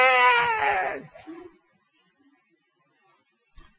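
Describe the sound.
A voice imitates a hungry baby's scream, one loud, high, wavering wail lasting about a second, followed by a brief fainter sob and then near silence with a small click.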